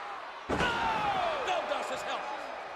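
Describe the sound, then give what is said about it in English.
A single sharp, loud slap cracks out as a woman slaps a man on the nose, followed immediately by a sustained roar of crowd noise and indistinct voices that continue to the end. “Oh, what a slap! What an insult! She slapped Helmsley right in the nose.”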